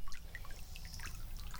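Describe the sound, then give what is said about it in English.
Water gurgles and bubbles steadily in a windy creek beside a path, with scattered bright drips and plinks over a low, continuous rush, moderately quiet, with no voices. “And the gurgle bubble of the water in the creek.”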